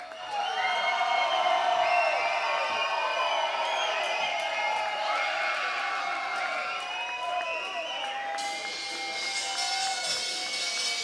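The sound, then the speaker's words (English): A large concert audience cheers and shouts continuously for an encore, many voices whooping and calling out together in a loud, sustained roar with scattered clapping, all the way through. “And if you're making enough noise, we may be able to get them to come out.”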